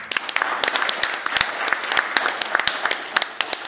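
A crowd applauds steadily, many hands clapping in a dense, crackling wash with sharp individual claps poking through, sustained at moderate loudness for the whole stretch with no voices over it.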